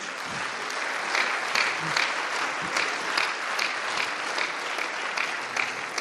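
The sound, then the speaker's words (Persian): Steady applause from an audience for a speaker at a gathering, a dense, even patter of many hands clapping continuously for several seconds with no voices standing out. “ولی اول از شما میخوام که خودم رو تشویق کنید، چون مدار مالیم 4 برابر شده.”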